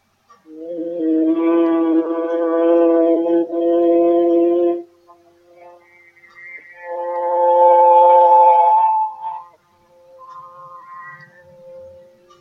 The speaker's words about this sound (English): Then I'm going to do the monk's tone, which goes into the 40 to 45 hertz.